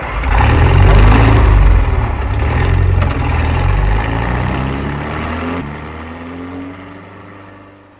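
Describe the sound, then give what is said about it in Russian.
A car engine rumbles loudly and revs, its pitch climbing and shifting before the car pulls away, being driven to a garage in a settlement, and the sound steadily fades. “А я машину в гараж погоню.”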